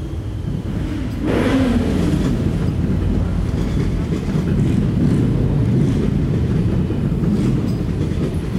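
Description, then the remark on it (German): A steady roar of car traffic circling a roundabout, heard from a platform above it, dense and continuous, with gusty wind buffeting the microphone throughout. No one speaks. “Wenn man hier oben steht, auf diesem Roxy-Plattform, da dreht sich die Autos drehen da rundherum. Das ist ein Karussell.”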